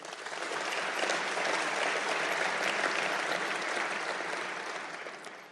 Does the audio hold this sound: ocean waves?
no